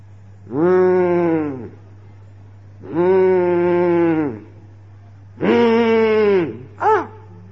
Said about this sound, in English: Why this cow is making so much noise? He goes to his friend. This cow is harassing my meditation.